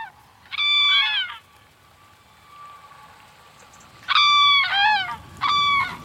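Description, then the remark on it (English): Cranes call in three loud bursts of trumpeting, bugle-like notes, the first alone and two more close together near the end, over a steady background hiss. “The crane, a special, special bird.”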